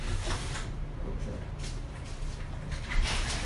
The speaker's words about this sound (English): Should we open another window? Yeah, can we open them higher, maybe?